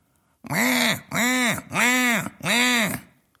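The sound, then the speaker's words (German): A male honeyeater, a bird found only in Australia, gives four harsh, drawn-out crow-like caws in steady succession, each rising and falling in pitch with a raspy, nasal tone, loud and alone, mimicking a crow. “Das hier, eine Krähe oder ein Wildschwein oder auch die Geräusche von Teekesseln oder Rasenmähern.”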